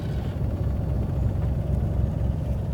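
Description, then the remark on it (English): A helicopter flies off after setting a car down on dusty ground; its low, steady engine and rotor drone fills the scene, a dense rumbling hum that holds at a constant level throughout with no voices. “The chopper flies off, and he gets out.”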